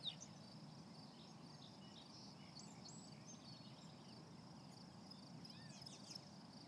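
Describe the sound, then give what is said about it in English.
A faint, steady high-pitched chorus of crickets and katydids trills continuously at Callahan State Park in Framingham, Massachusetts, on a June night at sunset, with a few brief chirps over a low, rumbling outdoor background and no voices. “And I'm very pleased to hear the sounds, not only of birds, but the insects, I believe crickets and katydids, so I'll let you listen to them for a second.”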